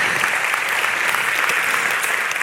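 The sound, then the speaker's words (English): A crowd applauds steadily after hearing that a golf-ball-sized tumor inexplicably shrank to almost nothing, a dense wash of many hands clapping at an even, loud level with no voices standing out. “You can clap for that.”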